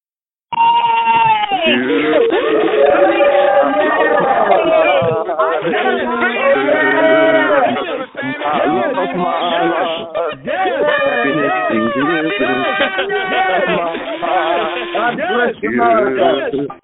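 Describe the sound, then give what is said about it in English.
Many callers scream and yell at once into the phone lines on Memorial Day, celebrating freedom, a continuous loud jumble of wavering, high-pitched cries over narrow, tinny lines that barely lets up for about sixteen seconds. “If you're excited about that, if you're grateful for that, I want to hear you guys scream into the phone on this Memorial Day, Freedom Remembrance Day, as I unmute the lines right now.”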